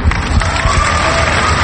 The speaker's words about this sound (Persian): اما آذر ماه یه بار دیگه کف و سوت میخواد.